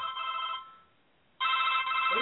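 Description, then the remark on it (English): A personal telephone rings during a live show in two bursts of bright, steady, high-pitched trilling tone separated by a short pause, the second burst louder than the first. No one speaks. “Oh, I tell you, I'm getting more calls on the personal phone than I am on the live show.”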